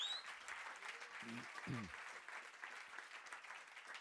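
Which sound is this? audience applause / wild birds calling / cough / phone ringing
audience applause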